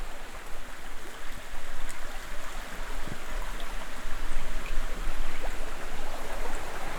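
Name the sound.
small river flowing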